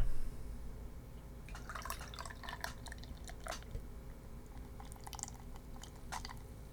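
A hazy gold beer being poured into a glass, an irregular run of splashy, fizzing crackles over a steady low background hum, with no one talking.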